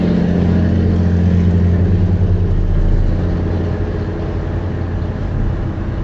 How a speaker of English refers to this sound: Truck.